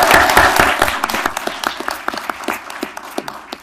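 A crowd bursts into applause, a dense wash of many hands clapping at once that thins into scattered, separate claps as it winds down over a few seconds.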